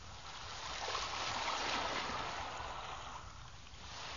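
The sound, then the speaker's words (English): Gentle ocean water sloshing and lapping continuously against a rubber dinghy afloat on the open ocean, a soft, steady wash of hissing splashes that swells slightly in the middle, with no voices. “New readers start here, afloat on a lonely ocean in a rubber dinghy.”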